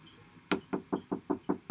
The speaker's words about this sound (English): Here we go. Old man's house, knock on the door.